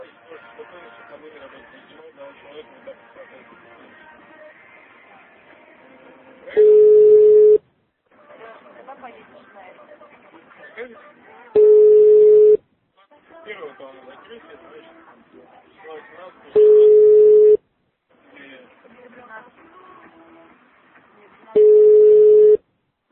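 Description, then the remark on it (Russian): Telephone line tones during a redial after a dropped call from the Alekscars car salon, a steady loud mid-pitched beep lasting about a second, repeat four times at even intervals, with murmured talk and background chatter filling the gaps between them. “Что сбилось, 10 секунд, сейчас перезвоню.”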